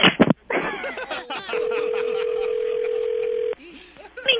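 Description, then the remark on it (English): A steady telephone line tone holds for about two seconds at moderate loudness as a three-way call with Ticketmaster is connected, preceded by brief voices and clicks on the line, with faint talk continuing underneath and resuming afterward. “He did a 3-way call.”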